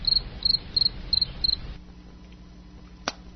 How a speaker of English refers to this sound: We're still not going. I went through the entire cricket track, and we're still not moving along.